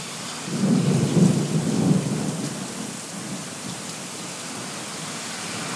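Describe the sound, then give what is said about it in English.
A deep, rumbling roll of thunder, loud enough to shake an apartment, swells over the first couple of seconds and then fades into a steady hiss of falling rain, with no voices. “And it's thundering so loud it's shaking my apartment, so.”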